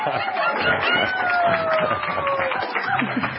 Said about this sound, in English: let us give them a heartfelt, a fireplace warmth round of applause, if we will.